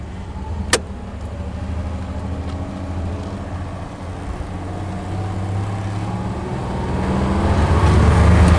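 An old car called Bertha runs steadily with a low, rumbling drone as it drives a lap, opening with a sharp click, then growing gradually louder and rougher. No one speaks.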